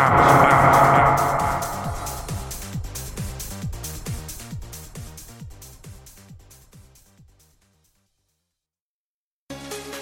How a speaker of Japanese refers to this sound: なんて言いながらタイトルコールしてねってエコー強めにちょうだい。